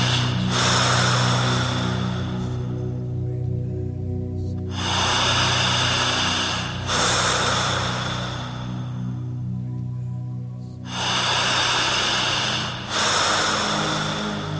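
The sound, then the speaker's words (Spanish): Slow, deep breaths drawn in and let out, about three or four unhurried cycles, each a long airy rush, over a steady low droning hum. “Concéntrese en esta respiración.”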